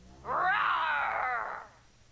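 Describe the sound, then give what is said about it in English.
A voice imitates a dinosaur roar over a phone line as an April Fools' joke in the cartoon Caillou: one drawn-out, growling roar of about a second and a half, loud and harsh with a thin, tinny quality, then quiet. “It sounds like a dinosaur.”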